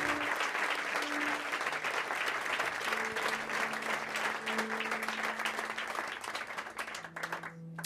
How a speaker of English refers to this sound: How about a nice round of applause for …? The drums.